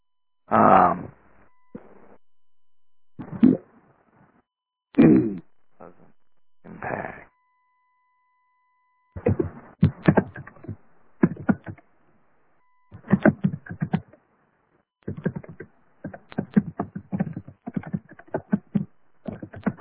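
Fairly loud computer keyboard typing: quick irregular runs of clicking keys in short bursts with brief pauses, preceded by a few heavier thumps and shuffling noises.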